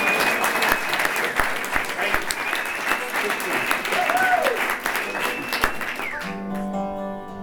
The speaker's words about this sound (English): Give my son a round of applause.